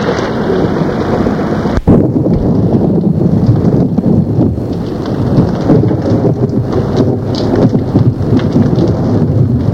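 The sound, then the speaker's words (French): Steady, heavy rain pours throughout a thunderstorm, with low rumbling thunder rolling underneath and a brief break in the wash of sound near the start. No voices. “L'orage continuait à tomber.”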